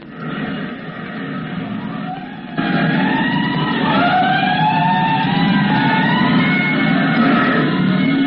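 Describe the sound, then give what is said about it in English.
A loud fire engine siren, responding to a five-alarm fire, wails in long rising and falling sweeps, with several overlapping tones over a steady rumbling roar. It grows louder after a couple of seconds, and no one speaks. “A five-alarm fire. Five bells. Move in immediately.”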